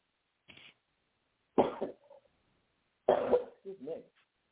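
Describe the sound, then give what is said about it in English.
Two harsh coughs about a second and a half apart, each a sudden loud burst trailing off into a rough, throaty rasp, preceded by a brief faint breathy sound. “Excuse me, I'm trying to finish out this day, and I haven't coughed all couple of days.”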